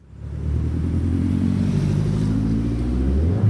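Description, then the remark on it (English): A steady low rumble of road traffic on Sukhumvit Road near the Asok metro station in Bangkok, Thailand, with engines droning and a vehicle revving over a continuous drone, loud and unbroken throughout, with no voices. “I'm standing on Bangkok's Sukhumvit Road near the Asok metro station.”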